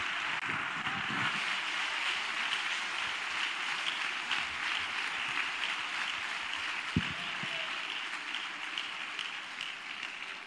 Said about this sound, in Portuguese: Aplauda Jesus recebendo o servo de Deus.